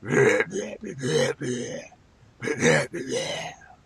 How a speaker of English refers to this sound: That's the MGM lion in burp form.